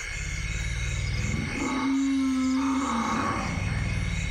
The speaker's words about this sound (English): These are African forest elephants. And some of the sounds you can barely hear because their frequency is so low. They're literally at the bottom end of human hearing range and even below that.